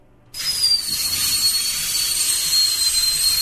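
A dental drill starts abruptly and whirs steadily, a loud, high-pitched whine with a hissy edge, its tone sliding slightly lower as it runs. No one speaks.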